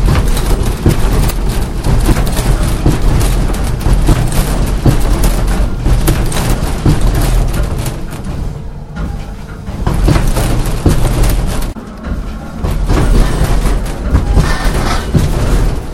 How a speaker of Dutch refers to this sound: We lopen nu de gang in. Hier zal de aardbeving plaatsvinden. Ja, dat is een kamer.